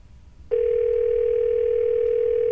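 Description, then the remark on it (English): A phone line's ringback tone sounds once on an unanswered call to a burrito hotline: a steady, clear electronic purr lasting about two seconds over faint low background rumble, with no one speaking. “Nobody's answering the burrito hotline.”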